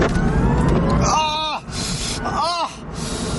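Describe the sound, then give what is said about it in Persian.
A car engine roars loudly and steadily from inside the vehicle as it accelerates hard during a test drive in California, with two brief vocal exclamations rising and falling over the noise. “خب یه شتاب باش بگیریم.”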